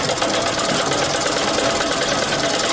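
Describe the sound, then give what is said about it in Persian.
A sewing machine stitching sheepskin (postin) coats in Labi Darya street near the crossroads in Ghazni city runs steadily throughout, a dense mechanical whir with a fast, even stitching pulse and a bright, buzzing edge. No one speaks. “د غزنی ښار پر خېڅلور لارې ته نږدې په لبی دریا کوڅه کې په پوسټین ګنډلو بوختای.”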